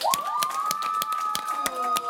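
Scattered, sharp claps from a small audience in Amsterdam after a secondary school students' pitch on tackling discrimination, with a long, steady whistle-like tone sustained throughout.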